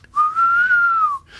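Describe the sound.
Someone whistles an imitation of an owl's call: one long, steady mid-pitched note lasting about a second, rising slightly and then falling away, with no talking.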